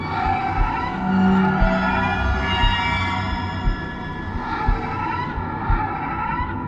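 An inhuman shriek, harsh and sustained like grinding metal on metal, loud, with piercing high overtones wavering over a low rumbling clatter for several seconds.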